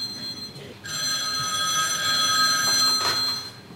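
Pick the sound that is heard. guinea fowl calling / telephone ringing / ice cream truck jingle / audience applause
telephone ringing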